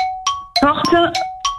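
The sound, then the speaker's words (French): A gong rings out during a word game, with repeated bright strikes, its sustained metallic tone hanging between hits while a voice briefly sounds over the middle of the ringing. “Et le gong a retenti”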